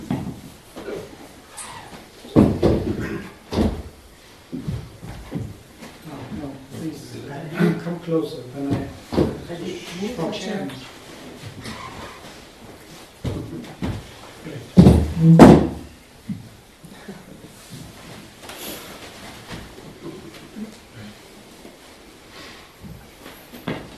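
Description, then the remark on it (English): Extra chairs are shifted around and set down for people to sit on, producing a scattered series of wooden thunks and knocks, including a louder cluster of bumps, with indistinct voices murmuring in the background. “We have some more chairs here also. You want a chair?”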